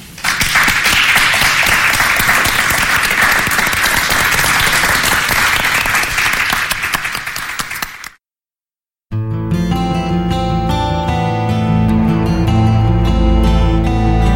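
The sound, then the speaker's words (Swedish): A crowd applauds loudly and steadily for about eight seconds, fading out into a brief silence before music begins. “Och en applåd till publiken som har lyssnat.”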